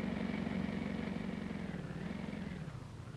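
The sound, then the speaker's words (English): A car engine hums steadily with a low, throaty drone, then eases off and drops slightly in level near the end as the car pulls up to a stop. “Look, there's a chap waving. We better pull up.”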